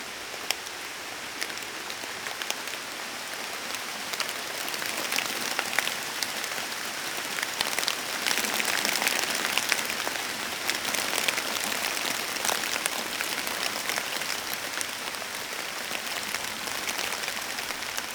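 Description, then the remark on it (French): Steady rain on October 21 patters through a forest, heard from a wooden kiosk shelter, a dense wash of drops with scattered sharper taps from water falling off the trees, continuous and even for the whole stretch with no voices. “Alors je dis toujours qu'en forêt, il y a 2 pluies. La pluie qui tombe du ciel et la pluie qui tombe des arbres.”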